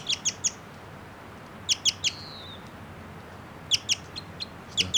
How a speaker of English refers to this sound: That bird I think might be a male. And it's giving some song now. It's a song phrase.